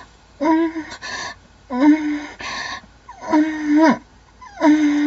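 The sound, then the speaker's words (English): Four strained, breathy gasps come in a steady series, each with a wavering, whimper-like voiced tone under the rush of air. They are fairly loud, separated by short quiet pauses, with no talking. “Gasping.”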